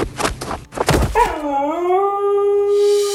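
A husky dog lets out a long, loud howl that swoops upward and then holds a steady, clear pitch, preceded by a second of rough barks and thumps.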